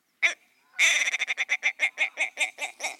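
A ptarmigan (genus Lagopus) calls: one short croak, a brief pause, then a fast burst of harsh, grating pulses that slows into a steady, rhythmic series of croaks. No voices accompany it.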